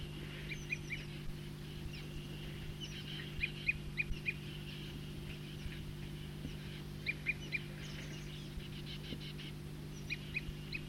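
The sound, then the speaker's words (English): A bird gives a repeated tooping call, short high notes in loose bursts and clusters over a steady low hum. The calls are moderately loud, with no talking. “Start recording the tooping again. Same bird.”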